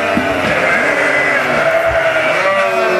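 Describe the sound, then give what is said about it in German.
A flock of sheep bleats loudly and continuously for feed, many overlapping wavering cries blending into a dense, steady chorus with no pauses; they have had no concentrate feed yet that day and expect it as the man with the green jacket arrives. “Die haben heute noch keinen Kerfutter gesehen. Und die wissen, das grüne Auto ist da, der Mann mit der grünen Jacke kommt.”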